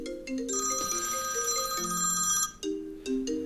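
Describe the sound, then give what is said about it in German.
A telephone that was not switched off rings with a melodic electronic ringtone, stepping tones under a bright, trilling shimmer. It is fairly loud, breaks off briefly, then starts again. No one speaks. “Das ist einfach immer ganz klar, man muss, es klingelt jedes Mal hinein, wenn ich nicht abschalte, dann klingelt es natürlich.”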